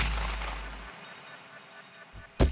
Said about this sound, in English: I took as steady aim as I could, and I shot. I missed, and I shot again. I missed. Took a deep breath, and I shot again, and